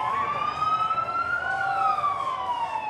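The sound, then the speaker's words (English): A police escort siren wails steadily, its tone slowly rising and falling, fairly loud against a background of crowd and traffic noise, as members of the 2004 Red Sox arrive on duck boats on opening day. “They arrive, naturally, on duck boats with a police escort.”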